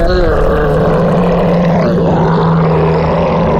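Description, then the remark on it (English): A deep, sustained roar of a huge female ogre, loud, rumbling with low growling harmonics and a rough, strained texture for several seconds, likely a voice imitating the creature. “She roars.”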